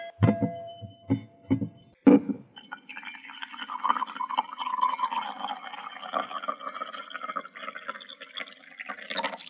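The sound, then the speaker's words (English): A few quick clinks and taps, then a steady stream of ice cream ingredients (milk, eggs, sugar and cream) pouring into a metal container, a continuous splashing rush with a slightly rising pitch as it fills, clear. “Next, I pour the ingredients into the metal container.”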